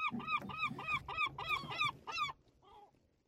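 A seagull calls in a rapid series of about seven loud, squawking cries, followed by a fainter call after a brief pause.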